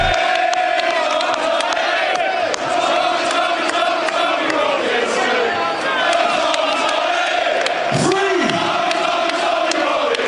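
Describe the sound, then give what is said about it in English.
A large crowd shouts and roars continuously at a rally, a dense wall of voices with rising cheers and scattered whoops, loud throughout, with one brief swelling yell near the end. “Try ignoring this crowd.”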